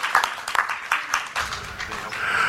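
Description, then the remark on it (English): An audience applauds, starting with a few scattered claps that quickly fill in to a steady, dense patter of many hands, holding at a moderate level for a couple of seconds. “Let's applaud for Steve.”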